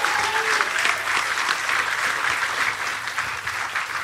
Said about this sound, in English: Yes, give him a round of applause.